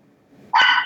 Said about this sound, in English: Oh, we got a barking dog that wants to get on the podcast.